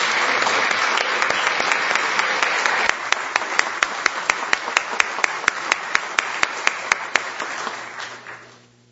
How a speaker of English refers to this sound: Would everybody please give them a round of applause? Thank you.